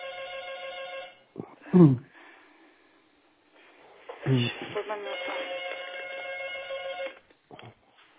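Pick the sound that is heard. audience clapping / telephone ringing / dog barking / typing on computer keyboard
telephone ringing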